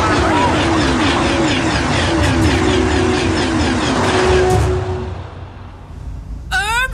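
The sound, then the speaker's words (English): A train roars through Platform 33 at speed without slowing or stopping, a loud rushing rumble with a steady droning tone that fades after about five seconds, followed by a brief burst of high squealing chirps. “The next train to arrive at Platform 33... doesn't actually appear to be slowing down.”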